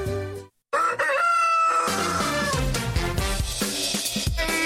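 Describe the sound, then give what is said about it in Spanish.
A rooster crows loudly once with a strained, stretched call that cuts into music, which carries on with a steady beat after the crow fades. “Qué bonito le jaló el pescuezo al gallo, ¿no?”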